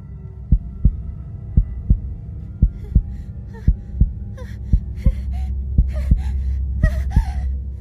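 A loud, steady heartbeat thumps at a quick regular pace, about fourteen beats, while ragged, heavy breathing grows louder in the second half. It is a woman's own heartbeat and heavy breathing echoing inside her head. No one speaks.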